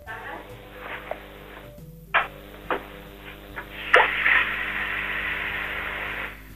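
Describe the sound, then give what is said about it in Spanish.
Water running from a kitchen tap, heard over a telephone line during a line sound test, as a steady, muffled hiss that swells in after a few knocks and clicks, then flows on evenly without anyone speaking. “Deje el teléfono donde está y abra usted un grifo de la cocina.”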